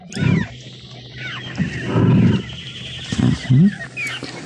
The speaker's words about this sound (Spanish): Solo se escucha un rugido, lo que quiere decir que únicamente un león de melena roja anda por ahí entre los arbustos. Y es muy valeroso. Sin duda se trata de un macho adulto, fuerte y vigoroso, jefe de una manada que no tiene miedo al tigre.